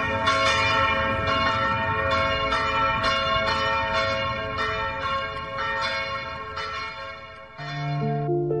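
A 10-second test church bell played from a mobile app rings repeatedly in a steady rhythm, its rich overtones layering into a sustained, resonant wash, loud, before a brief shift near the end with a lower tone.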